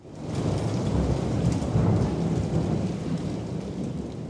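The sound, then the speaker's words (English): Heavy rain pours steadily while a deep, rolling rumble of thunder churns underneath, a dense, continuous thunderstorm in New Orleans with no voices. “A few miles away, the campus of Delgado Community College still floods during New Orleans' frequent thunderstorms, a grim reminder of the bullet this school dodged.”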